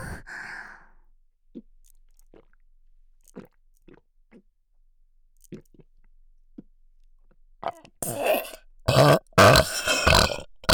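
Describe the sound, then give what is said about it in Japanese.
A soft breathy exhale, then scattered quiet mouth clicks, and finally a loud, drawn-out burp. No one speaks. “魔女の吐息、ゲップ、言葉、ぜーんぶ頭の奥まで染みついて、離れなくなる。”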